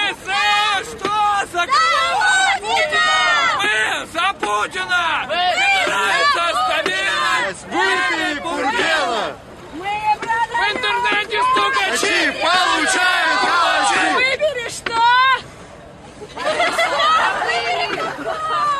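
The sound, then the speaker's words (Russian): A crowd of teenagers with placards at a rally in Yekaterinburg shouting slogans of support for Vladimir Putin together, loud, with overlapping yells that surge and dip briefly before rising again over nearly twenty seconds. “Юноши и девушки кричали слова поддержки Владимира Путина, иногда, впрочем, сбиваясь с текста.”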